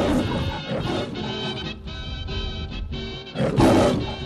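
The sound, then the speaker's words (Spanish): The Metro-Goldwyn-Mayer film studio lion roars loudly, a deep rasping growl that swells in a few throaty bursts, with a final powerful surge near the end. No one speaks. “Es el león de la metro Golden Meyer, que cumple hoy mismo 90 años.”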